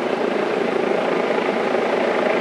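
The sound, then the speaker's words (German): A helicopter drones steadily overhead, its dense, continuous rotor roar filling the air outdoors without fading or breaks, and no one speaking. “Und jedenfalls ist also am letzten Freitag ja, Außenpodcast, Hubschrauber, Hubschrauber, Außenpodcast.”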